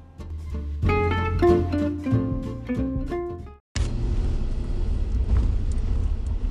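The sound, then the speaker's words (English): A short musical passage cuts off, followed by a steady, loud low rumble of a car interior while driving, with a dad and his two kids in the car, a continuous engine and road drone with no one talking. “we are here in the car with another episode of Dads in Cars with Kids”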